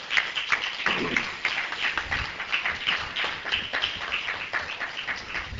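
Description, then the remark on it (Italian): An audience at a festival applauds its organizers steadily, many hands clapping in a dense, continuous patter of sharp slaps that holds at an even, moderate loudness throughout. “mi permetto di chiedervi a favore proprio loro un piccolo applauso più che meritato.”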